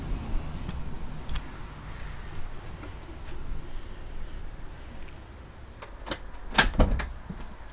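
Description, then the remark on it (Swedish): After a doorbell is rung at a house in a residential area south of the river in Skellefteå, Sweden, the front door opens near the end with a few sharp clicks and a clattering rattle, following several seconds of quiet outdoor ambience and scattered faint knocks. “Jag står i Skellefteå, söder om älven, på ett bostadsområde och ska ringa på en dörr”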